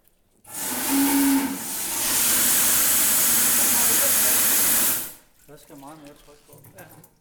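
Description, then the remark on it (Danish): A steam whistle from Helsingør barely sounds for lack of steam pressure, giving only a faint low tone early on beneath a loud, steady rush of hissing steam that lasts several seconds, then cuts off as voices talk. “Man kunne lige ane lidt fløjte ud, men så heller ikke meget mere.”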